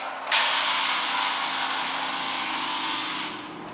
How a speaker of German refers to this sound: Motor wird gestartet.